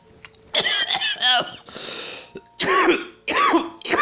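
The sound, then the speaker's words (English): A loud coughing fit: a rapid cluster of harsh, voiced coughs, a raspy wheezing breath, then two more heavy bursts of hacking. “Cough! It's really not worth it!”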